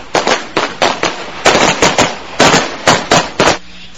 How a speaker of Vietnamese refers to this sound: Phát súng lệnh nổ ra theo tiếng thét. Súng để tự động lính biệt động cùng lúc khai hỏa vào địch quân, chỉ cách họ không đầy 20 mét.